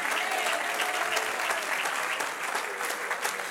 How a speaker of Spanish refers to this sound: Denle un aplauso al que vive y reina.